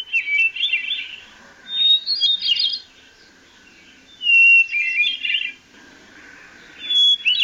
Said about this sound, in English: The beautiful, spiraling, flute-like songs of Swainson's thrush and hermit thrush carry through the summer forests as well.